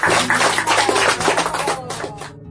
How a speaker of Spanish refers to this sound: Bueno, ya tenemos otro miembro fundador en España. ¡Un aplauso para ella!